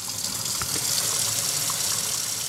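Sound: water running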